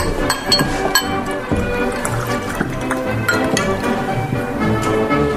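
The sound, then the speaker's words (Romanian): Glasses clink in quick, scattered taps while liquid pours steadily, set against a dense, busy background of mixed sound; the clinks are bright, recurring irregularly throughout. “Da, poftește în casă, străine. Închide un pahar cu noi.”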